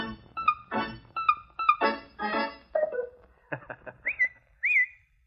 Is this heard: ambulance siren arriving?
no